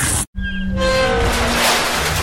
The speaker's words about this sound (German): Das war mein altes Auto.